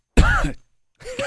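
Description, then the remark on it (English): A loud, close-up cough right into the microphone, a rough throaty burst followed by a short pause and a second raspy vocal burst. “You timed that cough perfect. Yeah. Right into the mic, too.”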